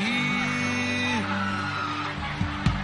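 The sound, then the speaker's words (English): Five people let out loud, sustained screams together from their bellies, a dense wall of overlapping cries held for a few seconds before breaking into shorter yells near the end. “Five people are going to scream from their belly, and something is going to come out.”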